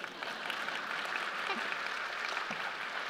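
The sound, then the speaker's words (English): An audience of about 1,000 people claps steadily after a song, a dense, even patter of many hands at a constant moderate level, with no voices heard above it. “Applause, please.”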